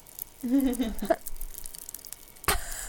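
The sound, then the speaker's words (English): Faint fizzing crackle of popping candy in a mouth, with tiny irregular pops throughout, a brief hummed vocal sound early on, and a sharper crackly burst near the end. “I've swallowed them and they're still popping.”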